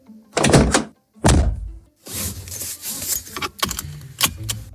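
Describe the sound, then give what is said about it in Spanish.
A car door shuts with a heavy, muffled thunk on a cloudy morning with a few raindrops, followed by a second solid thud, then a stretch of rustling and small metallic clicks and jingles as the seatbelt is put on before driving to work. “Puerta cerrada, cinturón puesto, la radio, por supuesto, siempre encendida.”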